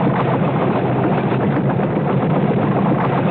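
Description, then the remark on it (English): A 1973 Ford Torino's engine roars at a steady, loud level throughout, with a dense rattling, rumbling texture and no voices, as the car starts up and drives over 2x4 boards with a high-wire walker on a tightrope rigged to its body. “With Bill aboard, the car started up.”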